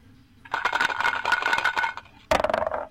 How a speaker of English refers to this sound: Select. Roll dice.